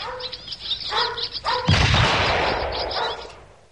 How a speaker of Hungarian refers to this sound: Majd távol tartom, és közben lövöldözöm a seregélyeket.